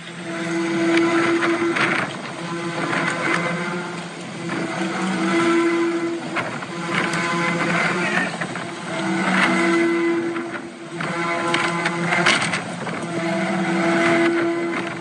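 A personal safety alarm (rape alarm) blares outdoors in a front yard, a harsh, buzzy moaning tone that swells and dips in repeating cycles of about three seconds, steady and loud over a wash of wind noise.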